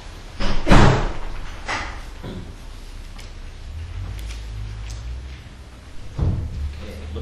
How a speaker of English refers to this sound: Can I have somebody to close the back door?